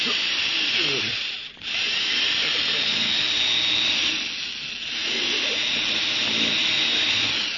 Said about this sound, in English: You think I've drilled into this vault deep enough now, Mr. Beecher? Yes, I think so, Larry. Looks good. How deep is the hole?